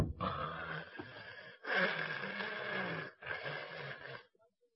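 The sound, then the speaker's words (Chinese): A voice imitates the loud snoring of a man asleep on a bed: three long, raspy, rumbling breaths drawn in close succession, harsh and breathy, with short pauses between them and no talking. “里间屋这床上，那大傻子正在那打呼噜呢。”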